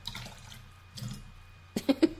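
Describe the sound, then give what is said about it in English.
A short trickle of water pours into a glass of whiskey, with soft splashing and a few bright plinks near the end, fairly quiet. “Do we not put water in it? Well, you can if you want. No. I would quite like a bit of water.”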